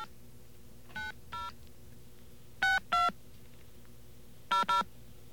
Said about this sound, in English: Let's get our friend the dial tone here. There we are. Let's give this a call.